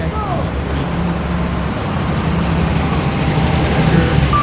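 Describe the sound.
A Jeep drives along with a steady engine hum and road noise, crossing a traffic light, the rumble holding fairly loud and even before easing as it pulls into a parking spot across the street from a Toy Joy toy store, with faint background voices.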